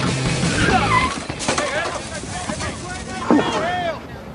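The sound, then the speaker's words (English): A car brakes hard in a movie scene, tires squealing and skidding in several rising, bending screeches over a rushing, wind-like roar, with voices audible underneath. “The brake! Oh! Just slow the car down!”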